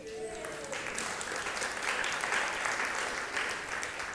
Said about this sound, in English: Because today, here in just a couple of minutes, we are going to celebrate my daughter's first birthday. You have my permission to clap.